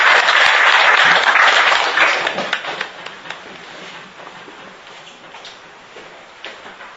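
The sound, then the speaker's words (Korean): An audience at a debate forum in Korea claps to welcome lawmaker Jeong Dong-hyeon to speak. The dense, crackling applause is loud at first, then fades over several seconds into scattered, thinning claps. “뜨거운 박수로 감사합니다.”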